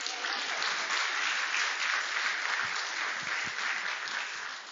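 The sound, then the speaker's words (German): An audience claps steadily for several seconds, a dense wash of many hands at an even loudness, with no voices over it before it begins to thin at the end. “Ein Applaus bitte.”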